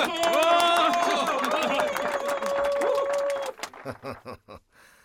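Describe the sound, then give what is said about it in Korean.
A crowd of miners at a mine entrance, welcoming Chun Doo-hwan after his tour of the mine gallery, bursts into dense, rapid clapping mixed with raised voices and cheers, holding steady for a few seconds before thinning out to a handful of scattered claps. “박수!”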